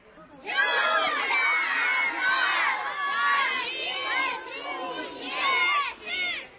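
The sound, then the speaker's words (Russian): A large crowd filling a forest at a Belarusian-language festival shouts and cheers together, many overlapping voices rising and falling in loud waves for several seconds, with high excited calls standing out above the general roar. “Шматликая публика, якая наполнила лес, так само подхопливала мовную гульню.”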